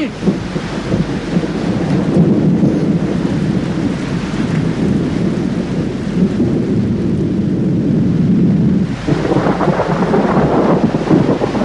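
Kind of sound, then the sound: nature, rain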